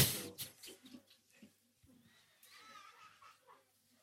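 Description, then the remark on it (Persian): A voice imitates the throaty, gurgling rasp of a man whose throat had been cut: a series of rough, choking bursts followed by a drawn-out strained wheeze, moderately loud, with no other sounds around it. “یه وقت دیدم صدای خرخر میاد،”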